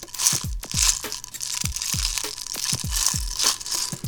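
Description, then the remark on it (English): Small 4.5 caliber lead balls for a black powder gun rattle and clatter inside a small metal tin in a steady, gritty stream, with repeated bursts of clicking rising and falling in an uneven rhythm. Moderately loud, with no one speaking. “These are lead balls.”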